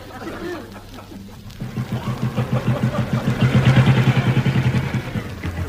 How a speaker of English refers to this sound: No, look. There's an AA patrolman coming along. Look, on the motorbike.